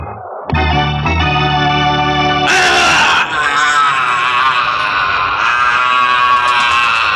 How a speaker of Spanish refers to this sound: Tarazul, herido de muerte, se precipita a tierra lanzando un espantoso grito y agitando su cuerpo de halcón